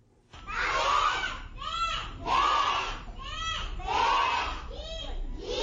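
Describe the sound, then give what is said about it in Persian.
A group of Sikh and Hindu children recite lessons aloud in unison in their central temple in Jalalabad, their high voices rising and falling in steady, repeated phrases about a second apart, loud and continuous. “شما آواز کودکان سیک و هندوی را میشنوید که در عبادتگاه مرکزیشان در جلال آباد درس میخوانند.”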